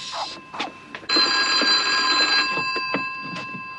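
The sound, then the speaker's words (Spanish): A telephone rings with a bright, metallic bell tone: a short burst, then a longer sustained ring, fairly loud, with a few sharp knocks and clatters around it. “¿Crees que debemos contestar el teléfono?”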